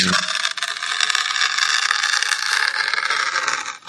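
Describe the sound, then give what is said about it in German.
A fingernail scratches and tears steadily at the aluminium foil seal on a new Nutella jar, making a continuous, bright, crinkly scraping noise that holds an even loudness for about four seconds, with no voices. “Fingernagel, die Alufolie von einem neuen Nutella-Glas einreißen, ritzen.”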